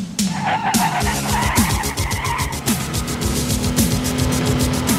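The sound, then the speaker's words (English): Car engines roar and rev continuously as tires skid and squeal in repeated bursts during a high-speed car chase in a movie, a loud, frantic chase with rising and falling engine pitch and no voices. “To the high-speed car chase.”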